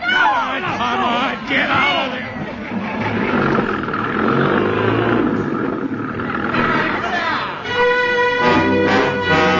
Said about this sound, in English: There's a truck. That's what we need. Stop the engine. Stop the engine.